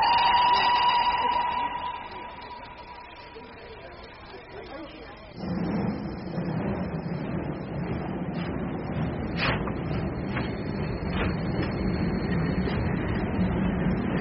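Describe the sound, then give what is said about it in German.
A steady tone fades, then after a short lull a train departing from a station starts rolling with a sudden rumble. Wheel clatter and intermittent clicks continue loudly until the end. “Bitte einsteigen und die Türen schließen. Der Zug fährt ab.”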